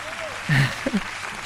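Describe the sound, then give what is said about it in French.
An audience applauds after a sung piece by Rossini, in a steady, dense patter of clapping. A voice briefly sounds over it. “Oui, on peut applaudir.”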